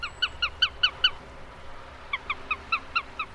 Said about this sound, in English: And that's a sparrowhawk, two birds of prey that archaeologists believe hunter-gatherers may have tried to imitate when looking for food tens of thousands of years ago.